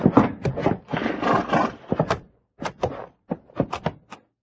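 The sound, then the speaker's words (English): A horse carrying a sheriff's prisoner snorts and whinnies, then its hooves clop in short, uneven bursts with brief pauses between, fairly loud and with no voices. “Sheriff, take your prisoner down off that horse.”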